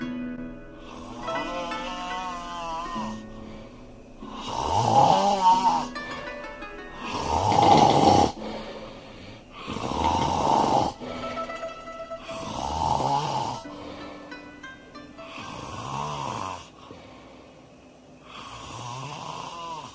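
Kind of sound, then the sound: human body sound, man snoring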